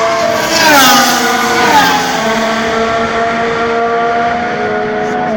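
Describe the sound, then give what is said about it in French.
Loud racing car engines roar at the start of a race with layered whining tones, their pitch sweeping and dropping early on, then holding a steady, sustained drone with no voices. “Mesdames et messieurs, démarrez vos moteurs, c'est un départ.”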